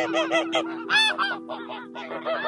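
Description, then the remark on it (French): A goose flying overhead honks repeatedly in a rapid, uneven series of nasal calls, fairly loud and clear, with no voices alongside. “Lièvre blanc entendit un gloussement et leva la tête vers le ciel.”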